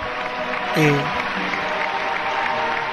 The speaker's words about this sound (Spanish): ¿Aplausos?